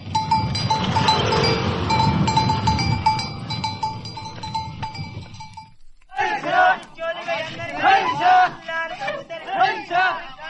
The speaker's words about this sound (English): Oh, and across the street a camel goes by pulling a cart.